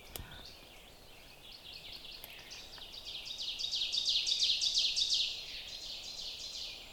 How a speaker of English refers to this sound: I'm actually hearing two ovenbirds. I will try to walk a little bit closer. They're still active and singing. They're still busy with their nesting. Ovenbirds are fairly common. That's their teacher, teacher, teacher, teacher song,